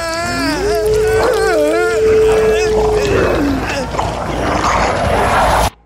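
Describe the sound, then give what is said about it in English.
A loud, drawn-out creature howl rises, holds with a warbling wavering tone for a few seconds, then slides away into a dense rumbling, roaring background that cuts off abruptly. “I scream into the thing's open throat as it howls back into mine.”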